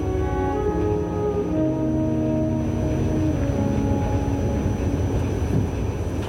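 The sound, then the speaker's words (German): A night train, the Nightjet 408 from Berlin to Zürich, rolls steadily along the tracks through the Upper Rhine plain past Karlsruhe and Freiburg toward Switzerland, a continuous rumble with a droning mechanical hum and faint rhythmic clatter underneath, holding an even loudness throughout with no voices. “Der Zug rollt längst durch die oberrheinische Tiefebene, vorbei an Karlsruhe und Freiburg und weiter Richtung Schweiz.”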